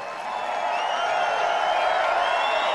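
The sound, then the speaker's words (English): A large crowd cheers steadily at an evening speech celebrating July 4th. It is a dense wash of voices with scattered whoops and shouts rising above it, sustained and fairly loud for the whole stretch. “Big crowd, too.”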